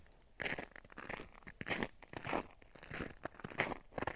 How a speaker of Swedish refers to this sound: Tycker du det är jobbigt med det här knastrande ljudet från mina spår? Mina skor, menar jag. På isen. Du får nog lov att stå ut med det, helt enkelt.